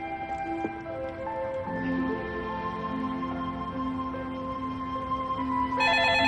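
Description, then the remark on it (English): A phone ringtone plays continuously, a steady electronic melody of sustained tones that shifts pitch a few times, clear, with no voices. “Peter pushes himself to his feet and answers the phone.”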